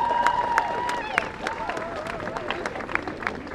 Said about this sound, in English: Thank you. Round of applause.